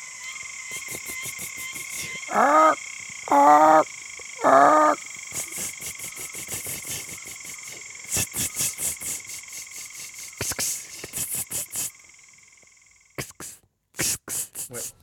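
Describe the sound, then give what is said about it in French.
Two grasshoppers chirp and buzz back and forth in steady, high trills with bursts of rapid clicking pulses, joined early on by three louder warbling calls; no one speaks. “Dialogue entre deux sauterelles. Langage des insectes.”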